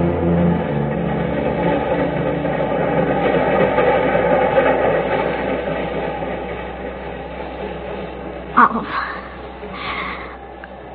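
A subway train rumbles steadily along, a dense rolling roar with a low hum beneath, broken near the end by a sharp metallic screech or clank as the carriage rattles.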